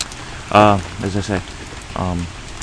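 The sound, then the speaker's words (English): Heavy rain pours down at 8:08 a.m. on a September morning, a steady, dense hiss filling the background, while a few short voiced sounds rise briefly over it. “It's raining like mad here, as you can hear.”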